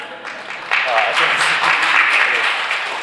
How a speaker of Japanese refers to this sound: まさか拍手が起こると思うんです。